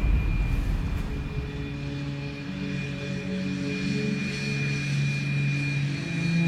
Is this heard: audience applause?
no